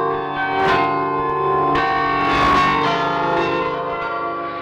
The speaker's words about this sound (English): It's Merk Tog Hoesterk, our interval signal that would announce Radio Netherlands' arrival to the shortwaves.